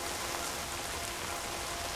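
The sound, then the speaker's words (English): Steady rain falls on a cemetery across the whole stretch, a dense, even hiss of drops pattering on surfaces, with no voices or other sounds breaking through. “The blooms are scattered and bruised by the rain.”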